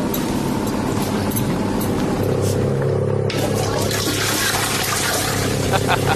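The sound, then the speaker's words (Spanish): A cycling peloton rushes past during a televised race stage with under 100 kilometres to the finish, a dense, steady whirr of bicycle chains and tyres blending into a loud continuous hiss, with low droning tones running underneath throughout. “Sí, Chorro, Evilla y hasta la cadena, ¿eh? Se oye absolutamente todo.”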